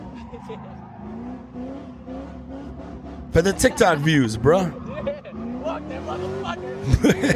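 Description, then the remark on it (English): A car engine idles with a low rumble in a parking lot, then revs hard in loud, rising and falling bursts, roaring. A man talks briefly over the engine noise. “He just dogging this car in the parking lot.”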